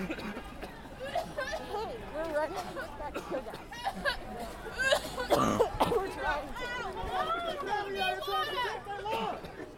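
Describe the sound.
Several harsh, close coughs and throat-clearing sounds break out amid a busy crowd of overlapping voices, with people shouting and talking all around.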